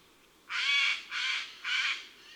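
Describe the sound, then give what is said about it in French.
Three loud, harsh rasping screeches of a Eurasian jay's alarm call, given when it sees someone or something unusual, each about half a second long and evenly spaced, with a broad noisy tone and no voices. “À la moindre inquiétude, ils lancent leurs cris puissants et rauques.”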